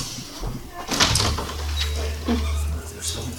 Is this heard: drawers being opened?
yes